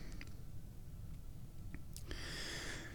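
A quiet slurping first sip of fresh, still too hot tea, a soft airy draw lasting under a second, preceded by a few faint clicks and mouth sounds against a low background rumble.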